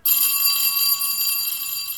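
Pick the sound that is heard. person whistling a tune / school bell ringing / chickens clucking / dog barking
school bell ringing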